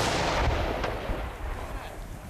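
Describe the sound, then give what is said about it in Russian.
A loud gunshot booms out, followed by a long, rumbling, echoing decay that slowly fades over a couple of seconds. “Выстрел!”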